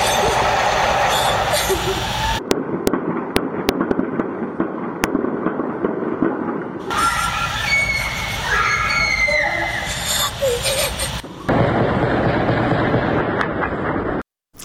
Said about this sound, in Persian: بر پایه ویدیوها و گزارش‌ها از شهر کردنشین مهاباد در استان آذربایجان غربی، نیروهای امنیتی و یگان ویژه با سلاح جنگی و با پشتیبانی خودروهای زرهی وارد مهاباد شدند و صدای تیراندازی از مناطق مختلف شهر به گوش می‌رسد.